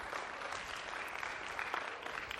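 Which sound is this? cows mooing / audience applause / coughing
audience applause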